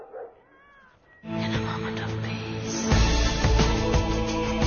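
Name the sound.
kitten meowing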